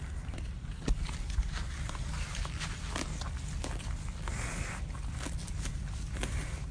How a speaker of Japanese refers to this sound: 牛さんが草をはむ音をお届けしております。シェムリアップからべーべーべー。